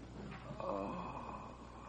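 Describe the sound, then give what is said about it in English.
A badly beaten, barely conscious man's ragged, labored breath rasps in the throat, a strained wheezing gasp that swells briefly and then trails off, fairly quiet against a low steady background hum. “He's gasping for breath.”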